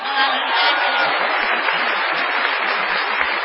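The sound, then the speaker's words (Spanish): A dense, steady wash of audience applause, an ovation for an artist, many hands clapping at once in a continuous hiss-like roar that holds at an even, fairly loud level throughout. “Todavía peor será la ovación que ha de tributársele al artista antes llamado ….”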